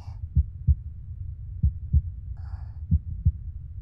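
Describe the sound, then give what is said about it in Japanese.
A fast human heartbeat: three steady lub-dub pairs of deep, muffled thumps over a soft low rumble, with a faint rustle partway through. “心臓の音が速い？そりゃそうだよ。”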